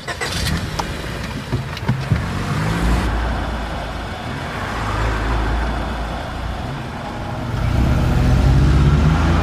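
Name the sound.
car driving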